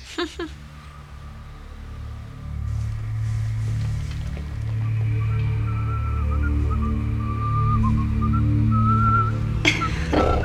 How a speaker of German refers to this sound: Er pfifft diese Melodie, die er immer pfeift. Das nervt mich echt.